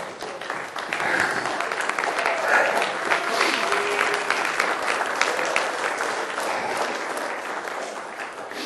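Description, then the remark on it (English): A crowd applauds steadily for several seconds, a dense, even wash of many hands clapping that holds at a fairly loud level before tapering slightly at the end. “It's kind of hard to clap them stubs, ain't it?”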